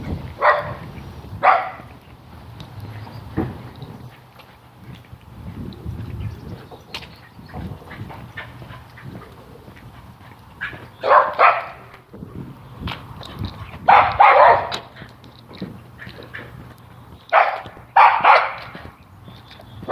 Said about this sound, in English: Barking dogs, something new and exciting.